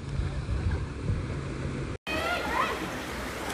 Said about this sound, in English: Okay, just in case you're wondering where I'm at. We're at a water polo tournament.